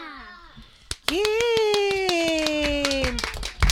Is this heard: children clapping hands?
yes